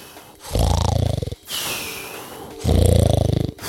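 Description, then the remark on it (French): Heavy sleeping breaths from the wolf Isengrin, heard under the door of his house: two loud, rumbling snore-like inhales, each about a second long, with a softer airy exhale between them, and no voices. “On distingue le souffle d'Isengrin sous la porte.”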